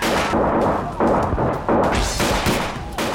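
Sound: gunfire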